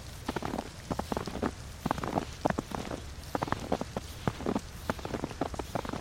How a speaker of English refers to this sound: If it freezes, you will hear crunching snow.